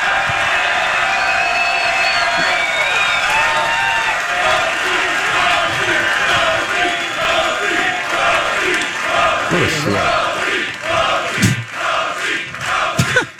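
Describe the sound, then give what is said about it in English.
A large crowd at a live show at the fair roars and cheers loudly and steadily, many voices blending together, with rhythmic surges toward the end as they chant "Rosie" for Channel 4 anchor Mark Rosen coming out to the crowd. “He always gets the Rosie chant from the crowd every single time.”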